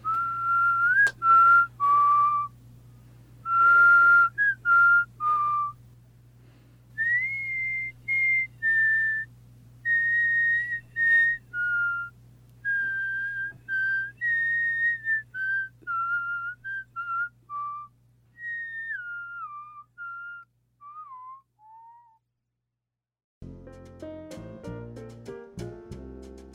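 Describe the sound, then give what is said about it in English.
A person whistles the slow, gentle melody of a Christmas song, clear, with sustained wavering notes and brief pauses, over a faint steady hum, before music begins at the end. “Because I could whistle.”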